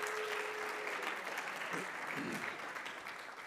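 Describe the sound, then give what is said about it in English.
A crowd claps steadily for the women who organized the event, a dense, even wash of many hands that holds at a moderate level before easing slightly toward the end. “One more round of applause for the ladies who put it together.”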